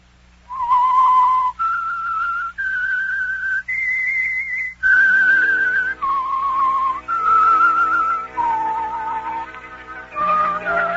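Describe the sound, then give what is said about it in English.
The whistled theme tune of the radio show The Whistler: a slow melody of long, clear notes that climbs step by step, then descends, with a soft instrumental backing swelling in partway through. No one speaks. “now back to The Whistler.”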